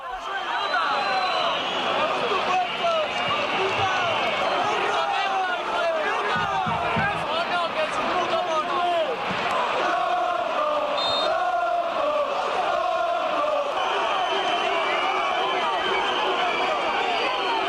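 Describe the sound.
A dense football stadium crowd roars and chants continuously, with many voices rising into drawn-out, hooting "uuu" monkey-like calls and jeering shouts layered over a constant loud hubbub: racist chants and assorted insults aimed at the player Vinicius during the match.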